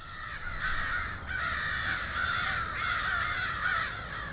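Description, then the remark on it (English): A dense, continuous chorus of thousands of crows cawing all at once in the trees above 101st Street in Niagara Falls, overlapping harsh calls forming a loud, unbroken wall of sound from a large flock. “This is where the crows live now. Thousands of them in the trees above 101st Street.”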